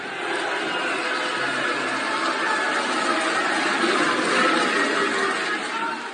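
Senators in Rome cheer and shout after narrowly voting down an anti-discrimination bill, a dense, steady roar of many voices, loud throughout the six seconds with no pauses, swelling slightly near the end.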